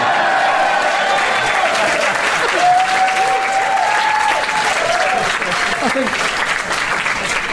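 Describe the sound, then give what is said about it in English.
Steady, dense applause from a comedy show audience for a comedian's threatening puns, loud and even, with some cheering and whooping voices rising over the clapping. “I think I'm the only comedian in the world who can get a round of applause for threatening puns.”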